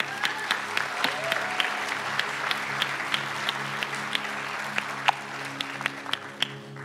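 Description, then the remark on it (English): A crowd claps steadily for a group of mostly girls invited up to the front, a dense patter of many hands with sharper individual claps standing out, continuing at an even level throughout with a low hum underneath. “If you guys give them a round of applause.”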